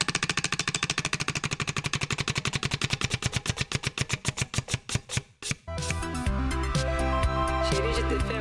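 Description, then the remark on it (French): A prize wheel, bought at a dusty flea market and spun to pick a summer hit and its year, spins with a rapid train of sharp clicks that gradually slow and spread apart until it stops, then music begins right after. “Je lance la roue achetée dans une brocante poussiéreuse, la roue du tube de l'été.”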